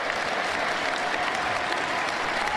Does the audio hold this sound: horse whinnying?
no